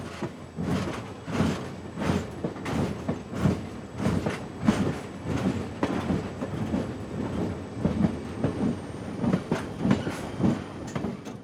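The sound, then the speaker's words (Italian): A train rolls steadily along the rails with a rhythmic clickety-clack of wheels over track joints, fairly loud, with a faint high whine running underneath and no voices. “Treni strapieni, lacrime, disperazione, soprattutto una grande confusione”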